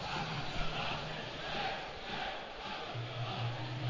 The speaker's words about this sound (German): Und es ist auch schon ordentlich Stimmung jetzt auf der Nord. So, und einen Applaus hört man es jetzt schon. Mannschaften betreten das Spielfeld.